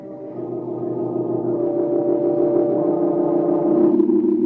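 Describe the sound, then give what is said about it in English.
A rented car's engine hums steadily at low speed, growing gradually louder as the car turns off the road and slowly approaches an old deserted house. No voices are heard. “They turn off the road and slowly approach the old house.”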